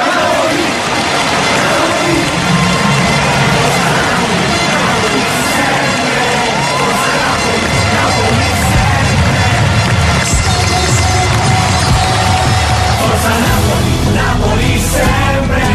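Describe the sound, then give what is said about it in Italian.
A dense, continuous roar of a large crowd shouting and cheering, loud and steady throughout, with a heavier low rumble swelling in the second half and no single voice standing out. “Lo sento da lontano, il grido della gente.”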